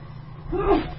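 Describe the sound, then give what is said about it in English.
A single short, muffled sneeze from a woman sitting right next to the speaker in a studio, fairly soft and close, standing alone over a low steady background hum with no talking. “Bless you.”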